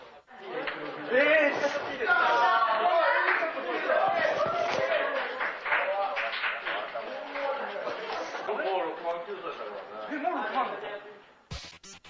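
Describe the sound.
A group of part-time shill workers, who pose as female members and send mail to male members, cheering and whooping when a male member makes a large payment: a dense wash of overlapping excited voices that stays fairly loud for about eleven seconds before cutting off abruptly.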